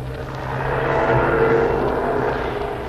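An army truck engine rumbles steadily as it backs up to the schooner Spindrift, tied up at the dock in the town of Zamboanga in Mindanao; a loud, low droning growl that holds constant throughout with no voices over it.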